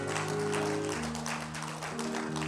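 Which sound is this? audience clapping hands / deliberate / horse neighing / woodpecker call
audience clapping hands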